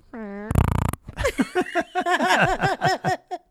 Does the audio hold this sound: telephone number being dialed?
no